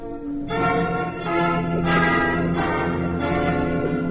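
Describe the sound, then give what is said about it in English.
A San Francisco cable car trolley bell clangs repeatedly in a quick, steady rhythm, about six bright metallic strikes ringing together, loud with no voices. “I don't like to sound off, but my brother is carrying out a great traditional pride in San Francisco. He's a trolley bell on a cable car.”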